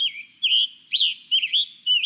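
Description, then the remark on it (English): A songbird, a scarlet tanager or hooded warbler, sings a series of bright, whistled phrases, four or five short bursts in quick succession, clear, with no other sounds or voices. “Songbirds, like the scarlet tanager and hooded warbler we've been hearing”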